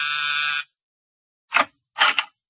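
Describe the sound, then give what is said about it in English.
The doorbell buzzer of apartment 2120 gives one harsh, steady electric buzz lasting about half a second. After a pause come two short, muffled bursts of sound. “Ring a bell and say hello to the American girlfriend.”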